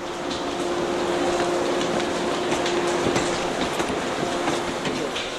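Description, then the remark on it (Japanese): A morning train rolls into the platform at Tokishi Station on Saturday, February 1, its steady rumble filling the scene with rhythmic wheel clatter and a faint metallic squeal, loud throughout. “あ、今電車が入ってきましたね。”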